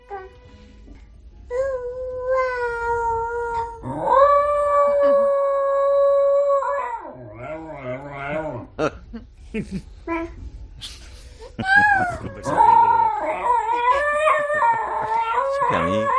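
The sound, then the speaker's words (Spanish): A collie howls in long, sustained, wavering notes, trading off and overlapping with a baby's babbling, sing-song cries. Both are fairly loud, with no other talk. “Hoy traigo, aparte de los habituales de dos patas, hoy traigo a un perro coli cantando con un niño, un bebé, para que el nene no se sienta solo.”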